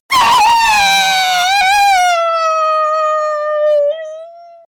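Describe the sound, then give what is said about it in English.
A long, terrified scream, loud, starting harsh and ragged before thinning into a steady, high wail that sinks slightly in pitch and cuts off after several seconds. “And Whisper screamed terror.”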